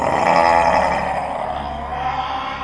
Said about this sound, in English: He grew and transformed from a huge Dracus-like being to a full-sized dragon, and then some. He had gigantic arms, powerful legs, and a beastly and ancient smile. He let out a roar, the sound of 100 dragons in one.